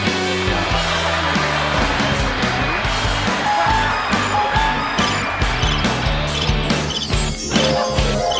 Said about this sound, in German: Keine Ahnung. Ich habe jetzt einfach alles gedrückt. Overkill, ne? Aber ich glaube, Applaus war mit dabei. Schön, Applaus war mit dabei.